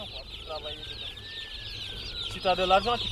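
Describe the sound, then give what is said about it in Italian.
Busy chirping of chicks in four cardboard boxes, each holding 50 chicks, and clucking hens fills the scene, with a dense cheeping texture throughout and a louder burst of clucks near the end. “accanto a me, ci sono 4 scatole di cartone, ognuna con 50 pulcini dentro.”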